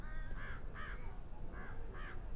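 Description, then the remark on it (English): Four nasal, wavering begging calls from a nearly grown juvenile American crow, in two pairs, in a mixed conifer forest of Douglas fir, ponderosa pine, lodgepole pine and limber pine, against a low, steady background rumble. “That last noise appeared to be a begging call of a nearly grown juvenile American crow.”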